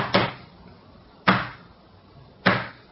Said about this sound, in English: Two short knocks and two long ones. Well, here goes.